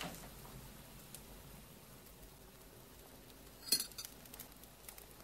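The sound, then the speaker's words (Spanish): Over a quiet, hissy room tone, a single bright clink of cutlery against a plate rings out in a kitchen as two pieces of cheese are cut and placed on two plates, followed by a few faint, softer taps of dishes. No one speaks. “corta dos trozos de queso y los deposita en dos platos. El mozo se los lleva al comedor.”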